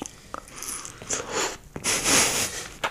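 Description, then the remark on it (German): Wet ASMR-style mouth noises of someone chewing right into a microphone: smacking lips and moist clicks in uneven bursts, with a few louder crunchy smacks toward the end and no talking. “Nee, ich nehme mir auch Ich einmal guck mal, ob eine. ich ihn so ein bisschen ASMR-Schmatze hier reinbekomme ins Mic.”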